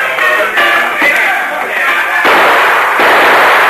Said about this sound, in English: As we go through the door, fire a couple of shots into the ceiling just as a warning.